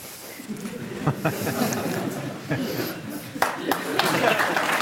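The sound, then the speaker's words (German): Scattered, hesitant clapping from a small group, uneven and sparse rather than a full ovation, with a steady murmur of voices underneath. “Bisschen zögerlicher Applaus, aber Applaus.”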